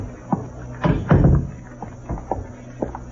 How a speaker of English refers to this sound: Close the door